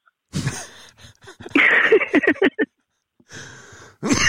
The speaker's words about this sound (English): Oh, sorry. That was an inopportune time to cough.